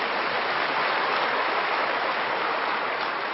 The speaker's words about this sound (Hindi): हाँ, ताली बजा अपने ड्रामा के लिए भी।